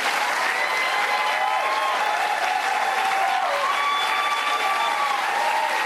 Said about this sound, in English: So there you, all these people are clapping for their own destruction. Yeah. You're $35 trillion in debt, you idiots. You're clapping for your own destruction.